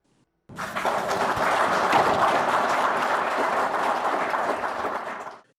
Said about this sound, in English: Those are Zimbabwean officials, including Wildlife and Environment Minister Opamuchinguri, clapping after they received anti-poaching equipment